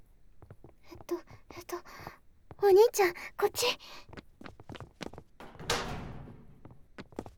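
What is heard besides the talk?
approaching footsteps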